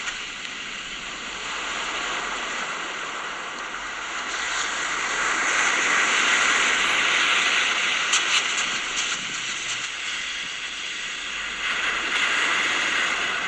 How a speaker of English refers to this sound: Would you like to listen to the waves? Here they are. Come on, waves.